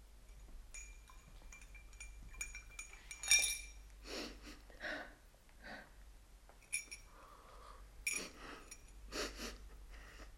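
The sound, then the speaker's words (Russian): Loud, wet slurping of tea in a series of uneven sucking bursts, mixed with light clinks of a spoon or cup. No one speaks. “Я не могу слышать, когда ты так хлюпаешь за чаем.”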